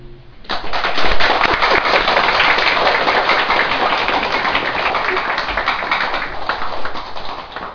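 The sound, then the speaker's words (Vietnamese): A group of people claps together before singing a song, a dense, loud patter of many hands that starts abruptly and holds steady for several seconds without talk. “Mình vỗ tay trước, sau khi hát xong cái mình vỗ tay nữa.”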